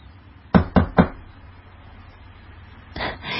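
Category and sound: household object, knocking on a door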